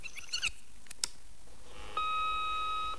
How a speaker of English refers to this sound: He takes out his glasses and puts them on, then presses a rewind button on the answer phone unit. As the tape rewinds,